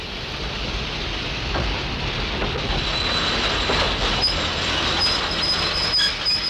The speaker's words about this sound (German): Da kommt ja schon ein Zug.